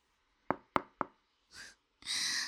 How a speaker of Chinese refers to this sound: 说着叫来了几个姐妹，10几分钟后听到敲门声。